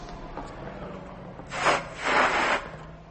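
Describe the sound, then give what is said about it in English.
A balloon is inflated in two breathy, hissing bursts of air: a short puff, then a longer, louder push, with no talking. “There is nothing within that balloon that is not air, and yet we've just put more into it.”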